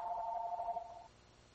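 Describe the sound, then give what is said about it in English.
A telephone rings once with a steady electronic trill lasting about a second, then cuts off. It sounds fairly quiet, with no one talking. “So, sorry about that. I turned that phone.”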